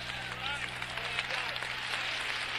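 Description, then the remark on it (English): An audience claps their hands in a dense, continuous wash of applause, with crowd voices and cheers mixed underneath, steady and fairly loud throughout. “Somebody clap your hands under the Lord.”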